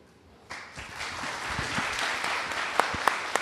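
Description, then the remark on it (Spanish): An audience breaks into applause, a dense wash of many hands clapping that starts abruptly and holds steady, with a few sharper individual claps standing out near the end. “Muchas gracias por ese aplauso.”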